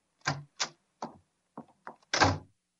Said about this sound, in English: Oh, there's the Mike Costello door. The door knob. Slam.